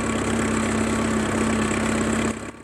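tractor engine running

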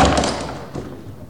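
door being opened

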